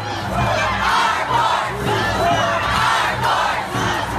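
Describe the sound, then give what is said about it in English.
A large crowd of protesters outside the Supreme Court of the United States, after the vote confirming Brett Kavanaugh as Associate Justice, chants loudly in unison, shouting a repeated phrase in a steady rhythm about once per second, with the mass of voices echoing outdoors. “And on the heels of the vote, protesters gathered outside of the Supreme Court.”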